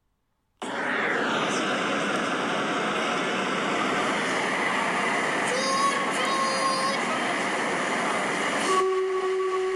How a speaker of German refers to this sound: Da kommt er an, der Zug, ruft eine elegant gekleidete Frau neben mir. Schnaubend rollt der Zug auf dem Bahnsteig. Rauch wird ausgestoßen und die Bremsen quietschen.